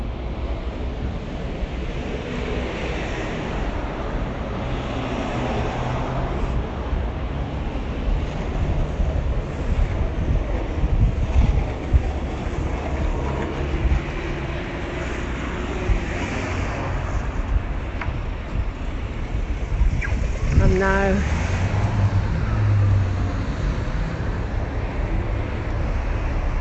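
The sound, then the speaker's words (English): A steady, loud roar of road traffic fills the whole stretch, with vehicles swelling and fading as they pass, one louder pass standing out near the end. No voices are heard. “Noticed how noisy the traffic is.”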